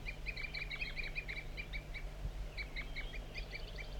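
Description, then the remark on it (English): A wild bird gives a continuous run of short, high tooping calls, repeated rapidly and fairly evenly over a low steady hum, with no voices present. “Mostly the wild bird. Continuous toop.”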